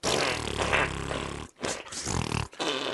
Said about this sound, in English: That'd be funny out of context. Just fart noises.